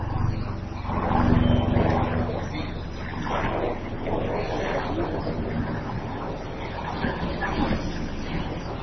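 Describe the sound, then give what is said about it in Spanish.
A steady, loud roar of an aircraft engine passing overhead, swelling near the start and then holding a continuous droning rumble to the end. “¿Es un helicóptero o un avión?”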